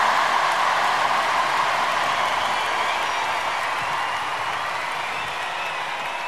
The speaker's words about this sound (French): D'ailleurs, je voudrais en profiter, puisque vous avez envie d'applaudir, on peut applaudir une fois, et je vous demande d'applaudir la chorale qui a travaillé depuis plusieurs semaines.